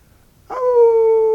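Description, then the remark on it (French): A single long dog howl rises abruptly after a short silence, then holds a steady, slightly falling tone, loud, with no talking. “Le chien cessa de hurler.”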